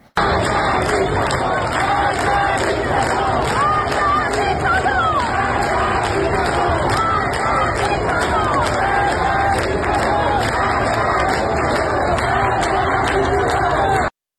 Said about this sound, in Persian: در تهران منطقه نارمک هم مردم در تجمع خود در شامگاه شنبه شعار مرگ بر دیکتاتور سر دادن.